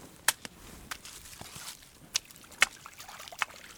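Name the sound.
water trickling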